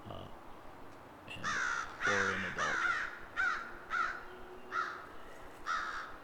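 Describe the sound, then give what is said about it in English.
A group of about 7 or 8 American crows caws loudly and insistently while mobbing an owl in a white pine stand near a nest in Crescent Woods, harsh overlapping calls repeating every half second or so for several seconds, following a brief quiet spoken remark at the start. “this group of crows is presumably mobbing a great horned owl.”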